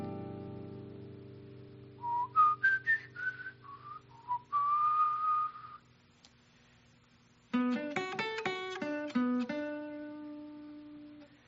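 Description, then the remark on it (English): A solo whistled jazz melody line, a typical jazz line based on a G major 7 arpeggio with a 9, of quick, bending notes in short phrases over a low hum. After a brief pause, a bright instrument plays a run of distinct notes. “Now I hear it in my mind. I'm going to externalize it by whistling it.”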